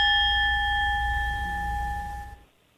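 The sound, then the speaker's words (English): A big bell rings out loudly once, its bright metallic tone sustaining and slowly fading for a couple of seconds before cutting off abruptly. No voices are heard. “That was an awful big bell.”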